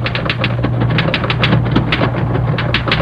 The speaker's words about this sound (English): A very pretty new girl was typing in the outside office.